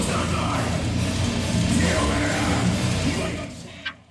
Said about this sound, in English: In the quiet town of Ceduna on South Australia's far west coast, the shriek of guitars and beating of drums echoes throughout the old Scouts Hall.